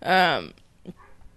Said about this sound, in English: Is that a dog? Yeah, literally, it's that dog, the golden retriever, who lives on the balcony across the street. Like, it almost sounds robotic. No, he's across.